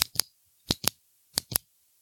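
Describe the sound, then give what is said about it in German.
Fingers rub quickly over a ballpoint pen as ASMR, making three evenly spaced pairs of short, crisp scratchy clicks, moderately loud, with silence between them and no talking. “Kriegt er dich über meinen Kuli drüber streichen?”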